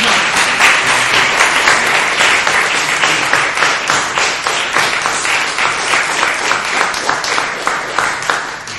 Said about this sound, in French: Moi, j'aimerais bien les applaudir encore une fois.